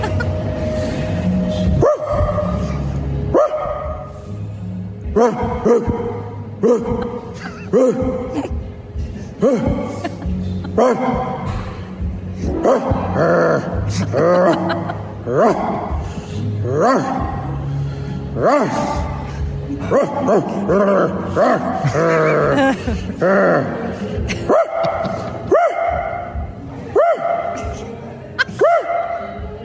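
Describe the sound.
A man sitting in a coffee shop imitates a dog, letting out loud barks and growly yaps in quick, uneven bursts that continue almost nonstop for about half a minute.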